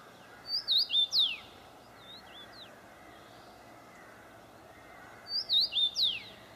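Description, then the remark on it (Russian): A small bird sings two bright bursts of quick chirps, about four notes each, separated by a few seconds of quiet with a soft outdoor hum beneath. “Чирик, чирик, чирик, чирик.”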